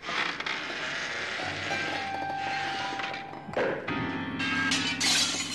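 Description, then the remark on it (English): A grand piano is pushed through a plate glass window of a conservatory: a long, loud jumble of shattering glass and ringing piano strings, with thuds and another burst of breaking glass toward the end. “To the alarm of the assembled company, from the conservatory comes the unmistakable sound of a Brummie abattoir owner engaging so thoroughly in sexual congress that he's pushed a grand piano through a plate glass window.”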